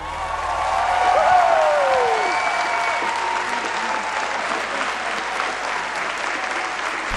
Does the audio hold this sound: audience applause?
yes